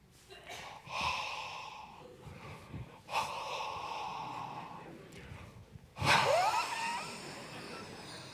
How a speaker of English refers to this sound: It's not a very heavy pulpit. I mean, we got a light one on purpose so that we could take it up and down off the stage quickly and easily, one person. But I'm going to move this pulpit. I'm going to attempt to move this pulpit by breathing on it.